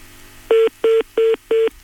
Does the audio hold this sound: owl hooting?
no